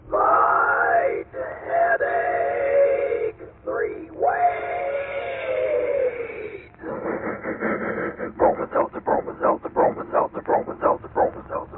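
A Bromo Seltzer train sound effect: a loud, wailing whistle sounds twice with a short break between, then gives way to a steady, rhythmic chugging that pulses quickly to the end.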